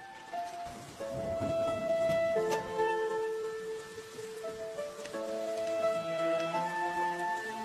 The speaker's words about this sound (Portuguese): Olha só a chuva, Roscoe.